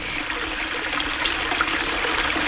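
A steady, continuous babble of running water, like a small stream flowing over stones, fairly loud with no voices.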